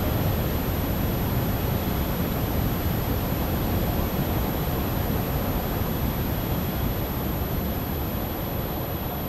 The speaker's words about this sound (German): Rauschen, ein weites Feld.